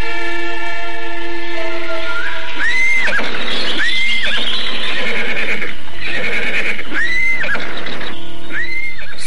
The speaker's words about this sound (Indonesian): Setelah bermalam di sebuah hutan, pagi harinya ia merasakan adanya bahaya di sekitar tempatnya. Kudanya berteriak-teriak gelisah tiada henti.